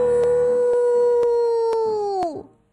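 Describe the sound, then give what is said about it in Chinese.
A single wolf howl holds one steady mid-pitched note for about two seconds, then slides downward and fades. It is loud and sustained, with no talking. “奥菲飞快地跑过草地，歪着脑袋又嚎叫起来， 嗷呜。”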